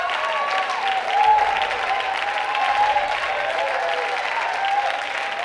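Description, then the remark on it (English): An audience claps steadily, a dense, continuous patter of many hands that swells slightly midway and holds at a fairly loud, even level throughout, with some scattered voices mixed in. “Thank you for using it and clapping.”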